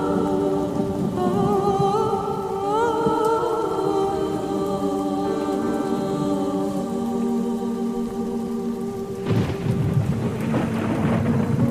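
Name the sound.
heavy rain with thunder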